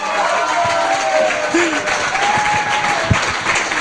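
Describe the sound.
Steady audience applause fills the whole stretch, a dense wash of many hands clapping at even loudness, with a few faint voices and whoops rising briefly through it.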